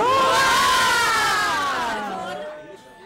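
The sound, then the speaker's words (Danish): After a speech, a group of guests shouts three cheers together, a loud, sustained cheer with voices rising and sliding in unison before fading away over a few seconds. “Så vi kan råbe tre folk.”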